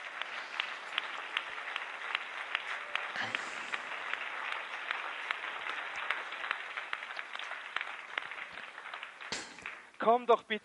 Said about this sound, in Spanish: Déjanos aplaudir por todo lo que lo hicieron.